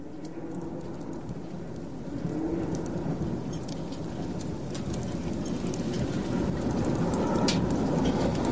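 A steady, dense patter of rain-like water falls continuously over a low rumbling bed, with scattered sharper drips standing out. It grows slightly fuller after a couple of seconds, and no one speaks.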